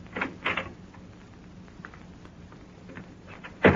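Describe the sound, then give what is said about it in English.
A door on a yacht is opened with a couple of sharp clunks and scrapes, then a quiet pause before a louder bang near the end. No one speaks. “Now, open that door.”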